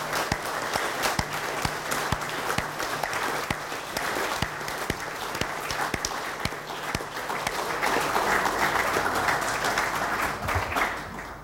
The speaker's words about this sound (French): Donc je tiens à ce qu'on les applaudisse chaleureusement pour leur application.